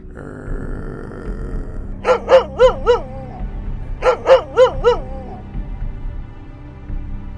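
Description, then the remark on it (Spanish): A dog barks in two quick bursts of about four sharp yaps each, clear, separated by a short pause, over a low steady background rumble. “Comprendió entonces que no solo es posible ver a los muertos, sino que además había sido convertido en perro por el resto de sus días.”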